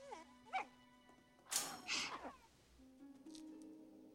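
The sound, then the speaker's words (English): A puppy named Odo gives a couple of short, high whimpers, followed by a brief burst of scrabbling, rustling movement as it runs into Claudio's bedchamber and under the bed; everything is fairly quiet, with a faint steady hum underneath. “The puppy Odo runs into Claudio's bedchamber.”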